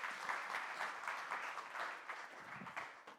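A church audience at Blue Ash Community Church applauds steadily, many hands clapping in a dense, even patter that holds at a fairly constant level and begins to taper slightly toward the end.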